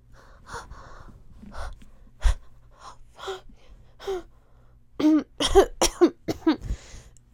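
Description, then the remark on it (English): A coughing fit: scattered breathy hacks and gasps, then a rapid run of five or six loud, rasping coughs near the end. Nobody speaks. “Yeah, it's just a cough, Mom.”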